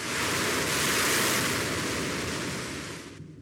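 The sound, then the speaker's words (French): Steady roar of ocean surf washing continuously as Max's boat sets sail again, broad and full, with a rushing wind-like hiss over it, fading slightly at the end. No voices. “Il fit voile à nouveau. Il vogua le matin et il vogua le soir.”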